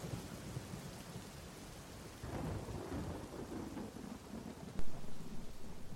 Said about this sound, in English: Oh, alas, the storm is come again. My best way is to creep under his gabardine. There's no other shelter hereabout. Oh, misery acquaints a man with strange bedfellows. I will here shroud till the dregs of the storm be past.